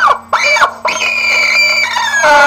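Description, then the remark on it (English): A squeezy rubber chicken toy, choked and then let go, lets out a couple of short honking squeaks, then one long, loud, wheezing squawk that drags on, with no one speaking. “It's a squeezy chicken that makes noises, and basically what you do is you kind of choke this chicken, and when you let go, it makes this noise.”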